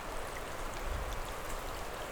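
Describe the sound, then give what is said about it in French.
Snowmelt water from lingering snow patches in the high mountains trickles and laps in a steady, continuous babble, fairly soft, with scattered small splashes and no voices. “Sous quelques clapotis d'eau de fonte.”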